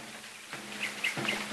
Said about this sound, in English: Just listen to them birds.